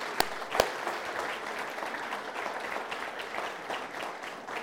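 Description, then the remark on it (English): An audience applauds to welcome children and students coming in to witness a baptism, many hands clapping in a dense, even patter, with two sharp louder claps near the start and no one speaking. “And I don't know about you, but I think right now, we just should applaud our children and say, "Welcome to this place."”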